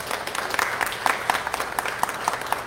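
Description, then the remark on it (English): An audience applauds steadily for the men, fathers, grandfathers, stepfathers and uncles standing to be recognized, many hands clapping in a dense, continuous patter of bright, crisp claps at moderate loudness, with no voices standing out. “Let's have a round of applause for these men this morning.”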